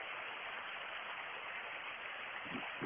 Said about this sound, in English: But the grey wagtail, of course, being the fast flowing parts of streams and rivers, which I don't know if you can hear that. Let's try and get the phone a bit closer.